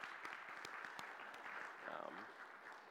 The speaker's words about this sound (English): So I just want to take a second. We can honor them. Just give a round of applause. Thank you to those guys.